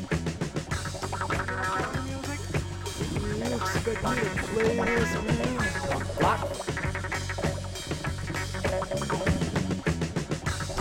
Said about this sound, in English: quack. That's heavy. Quack, quack.